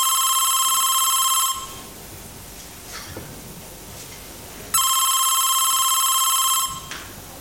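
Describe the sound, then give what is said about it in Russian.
A telephone rings twice with an incoming call from an acting teacher, each loud electronic ring lasting about a second and a half with a pause of quiet room noise between them, heard alone. “И преподаватель по актерскому мастерству мне звонит.”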